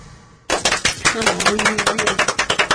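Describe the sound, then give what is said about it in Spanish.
After a brief quiet moment, a burst of applause starts suddenly and continues steadily, with sharp, crackling claps in a dense rhythm and a faint voice murmuring underneath. “Esos son aplausos.”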